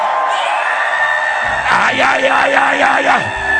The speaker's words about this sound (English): Give the Lord a shout. Hear me as you are shouting.